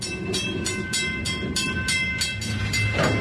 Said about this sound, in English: About 5 months later, in December 2013, the scorched earth of Lac-Mégantic was once again giving passage to trains.